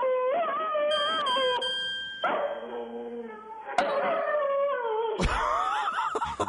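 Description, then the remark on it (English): A dog named Bettis howls along to a song in long, wavering cries that slide up and down in pitch, sustained fairly loud for several seconds over the music playing. “What is the dog's name again?”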